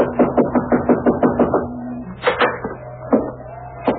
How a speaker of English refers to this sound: I guess we knock. It's polite.